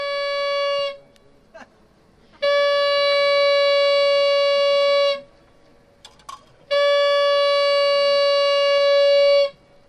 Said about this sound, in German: Das sieht ein bisschen aus wie eine guldige Vuvuzela. Fünfmal blasen heisst, Achtung, gleich wird gesprengt.